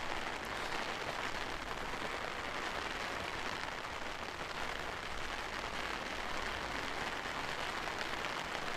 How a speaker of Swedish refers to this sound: Och ja, det finns väl inget mer att göra än att gå ner till stranden och se om det kanske minskar lite grann regnandet eller hur det blir framöver.